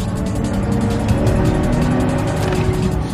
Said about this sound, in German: Tom stürzt in sein Auto und rast Lena hinterher, hinab zum Kanal.